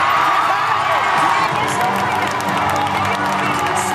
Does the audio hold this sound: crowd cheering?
yes